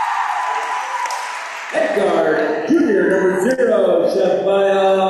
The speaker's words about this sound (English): Once again, the crowd is large and loud. Good to see. Good to see.